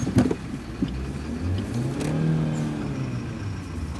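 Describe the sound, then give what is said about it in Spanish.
A car engine revs, its low drone climbing in pitch and holding steady for a few seconds before easing off, with no voices present; the car is being driven just before it crashes into a bus. “Choqué el carro.”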